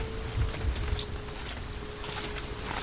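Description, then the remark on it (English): Steady rain falls on woodland trees in a continuous, dense hiss, with a low rumbling undertone and a faint, constant hum, with no voices present. “Look for tracks before the rain washes them away.”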